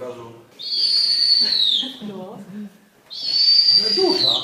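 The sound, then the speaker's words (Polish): A female snowy owl named Jadwiga, raised at a bird care centre and shown to nature lovers by her keeper, gives two long, loud, high-pitched whistling screeches, each gently falling in pitch, with people's voices murmuring faintly underneath and in the pause between. “prezentuje miłośnikom przyrody swoją wychowankę, sowę śnieżną”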